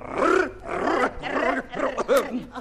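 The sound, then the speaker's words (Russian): A menacing growl, loud, rising and falling in four rough surges with brief dips between them, its throaty, voice-like quality suggesting a person imitating an animal. “А почему вы на меня так страшно рычите?”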